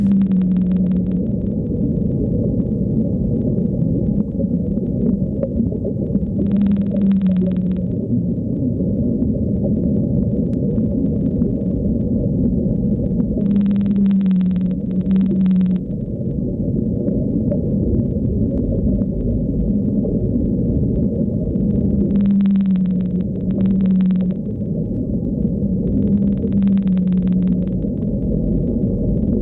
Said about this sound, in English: In recent years, they have returned to the waters around South Georgia, and in 2021, they were spotted off Spain's Atlantic coast for the first time in more than 40 years. And here, the song of the blue whale.